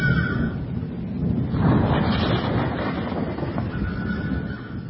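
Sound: storm wind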